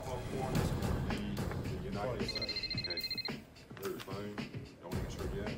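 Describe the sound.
A telephone rings one afternoon in a short, rapid electronic trill lasting about a second, standing out clearly over a busy background of voices and low rumble.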